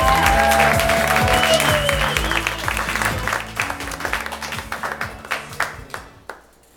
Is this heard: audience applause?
yes